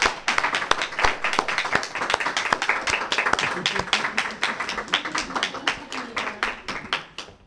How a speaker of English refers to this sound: And I want to just encourage you to give a big, big round of applause for someone who's not thanked enough.